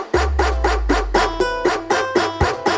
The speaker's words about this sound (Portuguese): Cuidado, cuidado com o cachorrão.